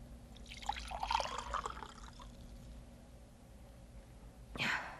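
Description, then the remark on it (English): Water is poured into a drinking glass in a short, splashy pour lasting a second or two, moderately quiet, followed by a brief bright clink near the end. “Could I have another glass of water, please?”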